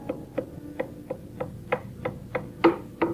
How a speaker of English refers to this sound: It's the old blind lady's stick tapping down the hall.